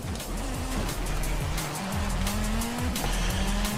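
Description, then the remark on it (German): A video-game car engine roars steadily and loudly, its pitch sliding up and down as the tires squeal and skid through continuous drifting, with no one speaking. “Alter, der schleudert wie die Sau.”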